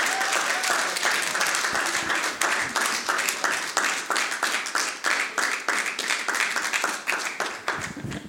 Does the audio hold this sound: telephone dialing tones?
no